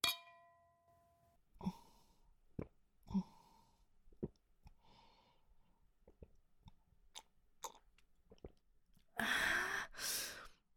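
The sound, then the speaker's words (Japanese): A single bright clink of glasses in a toast rings out and fades over about a second, followed by quiet sips of a homemade special drink, soft clicks and breaths, then a louder exhaling sigh. “乾杯。”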